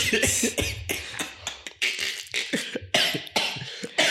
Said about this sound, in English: Don't make me laugh again, because I'm coughing.